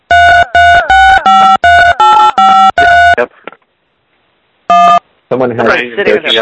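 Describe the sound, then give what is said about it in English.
A quick run of about eight loud phone keypad tones pressed in an uneven rhythm by someone's cheek accidentally dialing into a call, a brief pause, one more tone, then people start talking. “Yeah, somebody's cheek is dialing us.”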